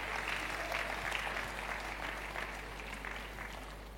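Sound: audience applauding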